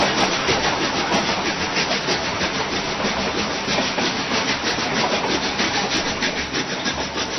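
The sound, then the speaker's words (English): An eraser rubs briskly on paper in fast, steady scratchy strokes that mimic a chugging train. The sound is loud, continuing without pause and with no talking. “This one, that train was being propelled by an eraser rubbing on paper.”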